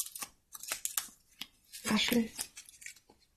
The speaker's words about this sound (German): Dann rascheln wir noch ein bisschen. Du darfst ziehen. Oh, so ein ganz kleiner Zettel.